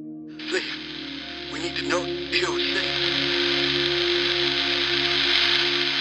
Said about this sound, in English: Wave of static. I held the phone against my forehead, letting the tears come, almost missing the words as the static subsided,